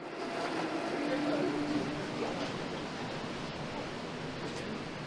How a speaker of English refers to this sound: It was so odd having a narrowboat pull away from you with so little sound from the stern.